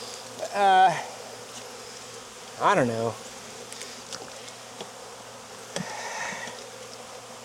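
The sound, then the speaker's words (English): A steady drone of many honeybees buzzing around an open hive, filling the whole recording, with a person briefly speaking twice over the constant hum. “What'd you guys think about that frame, this hive? Well, there's bees.”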